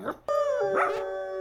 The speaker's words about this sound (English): Let's have all the dogs bark. There's Huey. Well, play his howl, not his bark.